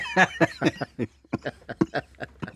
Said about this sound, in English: Old man cough. I got my old man cough is starting already.